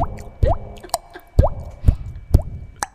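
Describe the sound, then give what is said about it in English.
Several resonant water-drop plops, each with a quick upward-bending pitch, repeat at irregular intervals over about three seconds with quiet gaps between them and no talking. “Do before we start, do a drop of water.”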